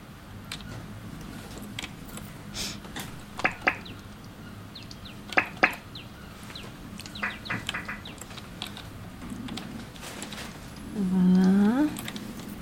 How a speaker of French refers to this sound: Il y a des petits oiseaux, non, quand on entend ? Oui, j'ai des oiseaux, attends.